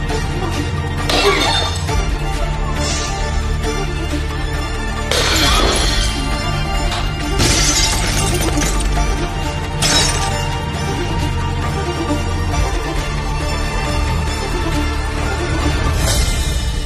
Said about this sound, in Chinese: 你敢怀疑我？我告诉你，我今天就算把这所有东西都砸了，也会有人巴巴的继续给我往上送，这就叫权势。